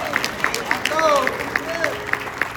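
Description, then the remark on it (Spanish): A Spanish-speaking church audience claps for Christ in a steady, rhythmic beat, sharp claps repeating about four times a second, while voices call out and cheer over the applause. “Denle un aplauso a Cristo en esta hora.”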